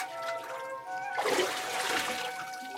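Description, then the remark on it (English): A sudden watery splash and churning as Naaman once more dips under the water while his servants watch, moderately loud, settling into sloshing, with soft sustained music playing underneath throughout. “Breathless, the servants watched as Naaman once more dipped under the water.”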